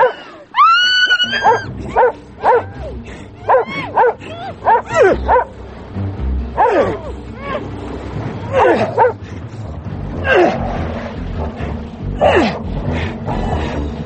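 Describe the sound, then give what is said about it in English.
A dog barks and yips repeatedly in sharp bursts, with whiny high-pitched yelps early on and rougher growling barks over a low rumbling background, loud throughout. “Goddamn dog! Get away!”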